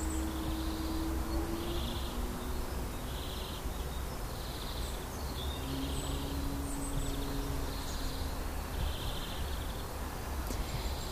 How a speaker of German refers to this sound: Der Frühling ist hier noch ziemlich am Anfang. Der Springbrunnen an der Orangerie noch nicht mit Wasser gefüllt. Aber die Vögel zwitschern, als würde alles schon in voller Blüte stehen.